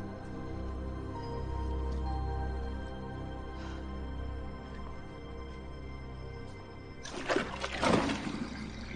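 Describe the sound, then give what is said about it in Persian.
A low, steady rushing hum of water moving through pipes, then a louder, hissing surge of flowing water near the end, with no voices. “چیزی نیست، صدای لولای آبه.”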